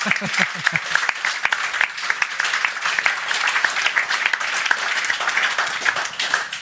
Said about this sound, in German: Applaus dafür.